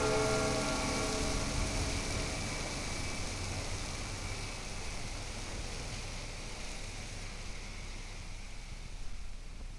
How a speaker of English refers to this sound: And amidst the lonely, far from America sounds of German rain, late night traffic, a distant bell, you begin the long trip back to the Kasern.